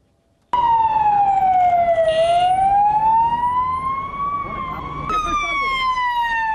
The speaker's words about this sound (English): Ambulances rushing toward an attack site outside the Afghan Defense Ministry.